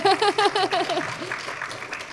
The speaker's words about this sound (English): Okay, thank you so much. Yes, more applause, please.